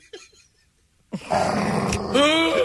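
A loud, rough growl that starts abruptly after a short quiet stretch and rumbles steadily, ending in a raspier, higher snarl. It sounds like a person's voice imitating an angry dog.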